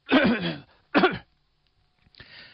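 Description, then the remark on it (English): A voice imitates a cough: two loud, throaty bursts in quick succession, followed after a pause by a fainter raspy clearing of the throat. “He didn't cough like that.”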